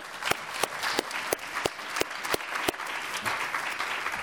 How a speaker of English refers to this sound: A round of applause for the panelists.